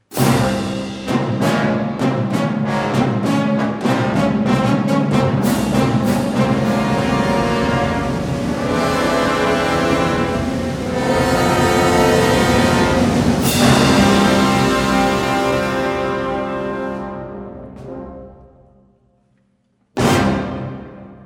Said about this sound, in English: Here's some fun with classical music and trains, The Railway Fugue by Hilding Rosenberg from his Journey to America on What's New.